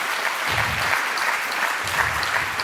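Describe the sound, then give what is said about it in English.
A crowd applauds Rick van der Rijn at the end of his talk and question session, with steady, dense clapping that stays loud and even for a few seconds, a broad wash of overlapping hand claps with no voices standing out. “A big applause for Rick van der Rijn for this very important topic.”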